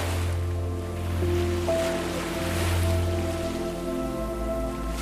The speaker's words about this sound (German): Und das Meer hat ganz leichte, kleine Wellen.